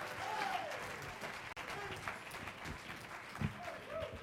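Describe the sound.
An audience claps steadily in praise in a dense, continuous wash of applause, with scattered voices shouting and calling out over it, loud throughout.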